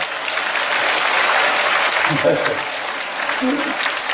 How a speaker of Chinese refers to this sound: 鼓掌。